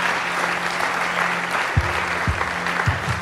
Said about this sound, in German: Komm, lass mal einen fetten Applaus geben für die, die sich heute für Jesus entschieden haben. So gut, ja, so gut.